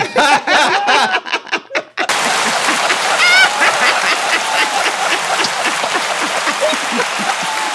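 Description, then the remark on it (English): One person claps for themself: steady, dense hand clapping sets in after a brief vocal moment at the start and continues loudly to the end, a busy run of claps that sounds full. “Now, I'm going to just tell you, while I'm getting ready to get on my soapbox here, I'm going to have to give myself a hand clap.”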